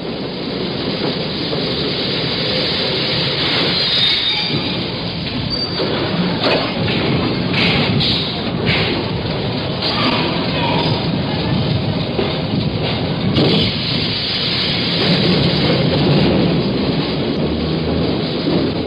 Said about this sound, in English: The subway rises from the tunnel and stops at 135th Street.